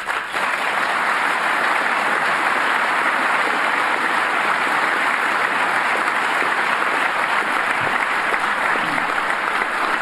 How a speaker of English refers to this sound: That is some long applause.